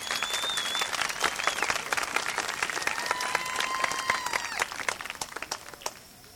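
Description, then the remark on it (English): Audience applause for a female singer: dense, steady clapping from many hands, with a few high whistles drifting over it, thinning into scattered claps before fading out. “Let's give her another hand.”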